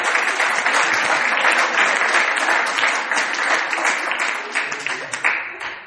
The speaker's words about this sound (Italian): Questo, chiuso la parentesi, mi chiederebbe tutto un applauso alle mogli dei pastori.